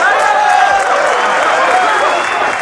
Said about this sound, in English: How about a big rebirth round of applause for Kyle?